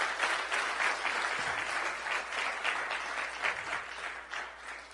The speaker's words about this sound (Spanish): Y si quieren aplaudir, aplaudan. Eso no hay ningún problema. Vamos a aplaudir.